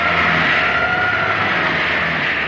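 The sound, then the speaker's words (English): A taxi cab engine revs hard and steadily for a few seconds, loud, with a sustained high whine as the cab accelerates in a police chase off the east end of Brooklyn Bridge. No voices are heard. “Hildy, you better go faster. Hurry, Hildy. Come on, give her the gun.”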